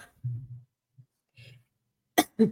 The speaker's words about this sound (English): I'm sorry. Can you please just talk so I can cough this out?